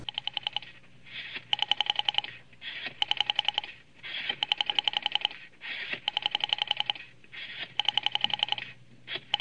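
A rotary phone dial is turned again and again, each whirring wind-up followed by a quick train of clicking pulses as it spins back, repeating steadily with no voices.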